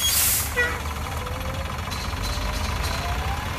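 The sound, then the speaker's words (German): A heavy 480-horsepower team bus with black-and-yellow leather seats, carrying the players and coach Thomas Tuchel, pulls away from the team hotel at exactly 19:15. Its engine rumbles low and steady, opening with a sharp hiss of released air brakes, then a faint rising whine. “Dann setzt sich der Bus um exakt 19.15 Uhr in Bewegung.”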